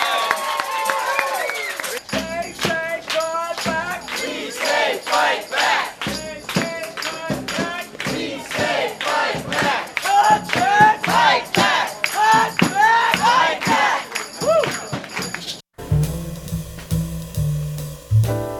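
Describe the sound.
A loud crowd cheers and applauds, many overlapping voices shouting and whooping in steady bursts, before the noise cuts off abruptly into a few seconds of music.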